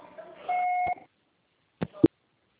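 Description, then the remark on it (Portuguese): A voicemail tone: a single steady electronic beep at a mid pitch holds for about half a second, signalling the start of message recording, then fades into silence broken by two sharp clicks, like a handset being handled. “Você só será tarifado após o sinal. Grave seu recado.”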